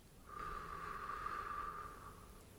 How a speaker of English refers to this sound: Keep doing this. Concentrate on your breathing. Focus purely on your breathing as much as you can.